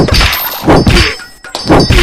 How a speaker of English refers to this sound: With the hammer noise, whoa!